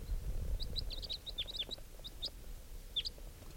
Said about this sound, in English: Here's the bird that's different. It's coming near. It's a type 3 bird, I think. Yeah. Circling.